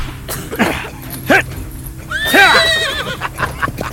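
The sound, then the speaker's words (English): A horse lets out a loud, shrill whinny midway through, framed by bursts of clattering hoofbeats as it gallops off, with no voices present. “My horse! After him, damn it!”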